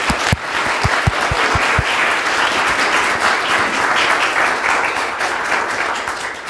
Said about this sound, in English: So first of all, a round of applause for everyone, which you already did, thank you. But another one.